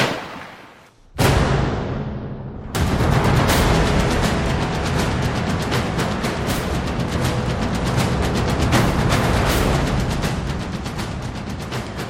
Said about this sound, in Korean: 잠시 후 모르세르의 침실에서 한 방의 총소리가 울렸다